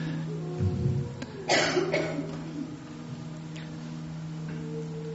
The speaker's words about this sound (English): It will be natural that some of you, as you enter deeper states of relaxation, will cough a little. Don't worry, this is normal.